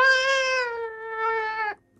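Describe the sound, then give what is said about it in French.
A single long, drawn-out cat meow, loud, holding a steady tone for nearly two seconds with a slight rise near the end before cutting off, heard alone with no talking. “Ça, c'est un miaulement, c'est ça?”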